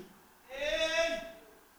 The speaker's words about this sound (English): What meaneth then this bleating of the sheep in my ears and the lowing of the oxen which I hear?